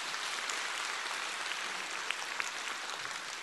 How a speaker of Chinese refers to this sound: 鼓掌。